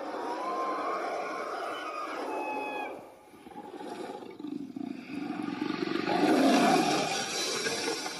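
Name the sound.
dragon roaring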